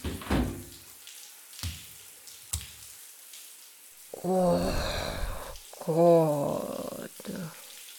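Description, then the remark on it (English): Hot shower water runs with a steady, soft hiss throughout, broken by a few sharp knocks early on, then a voice lets out drawn-out sighs and moans over the spray. “I really needed some hot water on my shoulders.”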